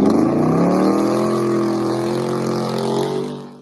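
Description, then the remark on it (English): The loud engine of Dave's truck roars and revs, a deep harmonic growl holding steady with slight pitch shifts before trailing off at the end. No voices are heard. “And let's start off with our worst player of the game, sponsored by Dave's Loud Ass Truck.”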